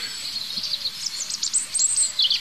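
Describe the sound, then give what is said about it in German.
Several birds chirp and trill continuously outdoors, high-pitched calls overlapping against a soft background hiss, with a few faint lower whistled notes repeating. “Was ich jetzt gar nicht so schlecht finde, weil ihr sollt ja eigentlich die Vögel hören.”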